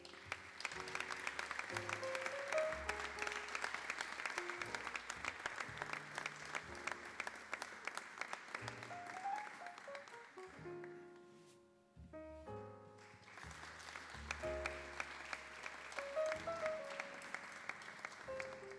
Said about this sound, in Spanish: Y como no, también para recibir en este escenario, que continúe el aplauso para, en este caso, las ….